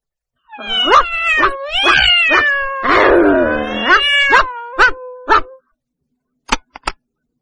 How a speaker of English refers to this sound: I can hear a dog. And a cat.